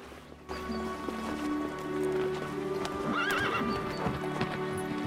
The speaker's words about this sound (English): Mounting her horse, she smiles at him, then rides away.